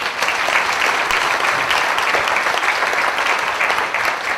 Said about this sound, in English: We're going to wear you out with applause.